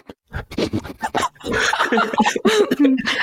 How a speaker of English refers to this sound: Sorry, my dog's at my bedroom door and she wants in.